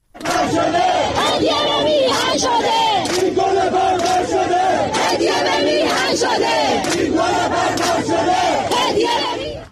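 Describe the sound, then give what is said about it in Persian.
A large crowd chants protest slogans at the 40th-day memorial of Hamidreza Rouhi, killed in the recent protests, at Behesht-e Zahra cemetery in Tehran, Iran, on Thursday, as government forces attack them; loud, rhythmic unison, voices rising and falling in repeated phrases, with sharp shouts and bursts of noise punctuating the steady roar throughout. “ویدیوهای منتشر شده در شبکه‌های اجتماعی نشان می‌دهد مراسم 40 حمیدرضا روحی از کشته شدگان اعتراضات اخیر روز پنجشنبه در بهشت صحرای تهران با سر دادن شعارهای اعتراضی حاضران و حمله نیروهای حکومتی به آنها برگزار شد.”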